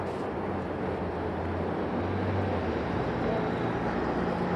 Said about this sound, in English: Oh, traffic on this intersection.